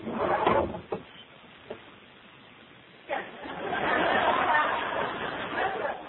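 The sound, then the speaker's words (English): Desk drawers slide open and bang shut a few times as someone checks the drawers of a desk, followed by a longer stretch of rummaging and shuffling, with a faint murmur of voices. “How about that drawer?”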